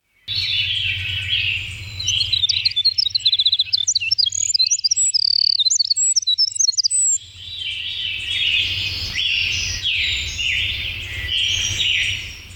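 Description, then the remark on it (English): A small winter wren sings a long, rapid cascade of high, tinkling trills and warbles, pausing briefly before launching into another bubbling run, loud over a low background rumble. “We do have a winter wren sound, which we'll include.”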